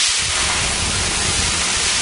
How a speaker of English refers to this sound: Hear that? The sound of water being poured on 800-degree rocks. If you were here in this sauna, you'd be so hot you wouldn't have the energy to move.